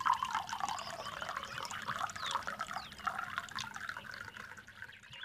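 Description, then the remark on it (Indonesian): Water trickles and splashes steadily as it is poured from a glass into a bottle, a continuous liquid sound with small gurgles and drips, fading slightly near the end. “Lalu kamu tuangkan air di gelas itu ke dalam botol.”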